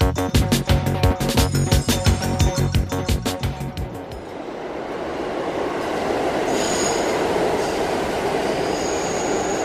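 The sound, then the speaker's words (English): A subway train rolls in loudly with a rapid clattering rhythm of wheels over rail joints that slows and fades after a few seconds, leaving a steady rushing rumble and faint high squeals. “When a train shows up on every track but yours.”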